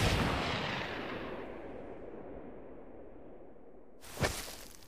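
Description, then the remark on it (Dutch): A gunshot fired during a sword fight in the desert booms and rolls away in a long, fading echo, then a second sharp crack rings out near the end. No voices are heard. “Er klonk een geweerschot.”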